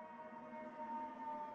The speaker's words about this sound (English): And you can hear what's happening around you. There may even be the sounds of sirens and emergencies, and you can hear that.